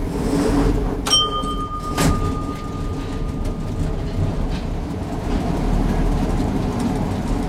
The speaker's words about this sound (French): Il est parisien et vintage. C'est vrai ? Ouais, c'est vrai. Alors c'est quoi qu'on entend ? C'est le métro parisien, ouais. Je crois.